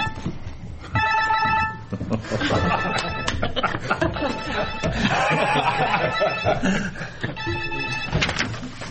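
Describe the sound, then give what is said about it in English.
A telephone rings in repeated electronic trilling bursts while several people talk and laugh over it. “Is that on the agenda that you were supposed to receive a phone call?”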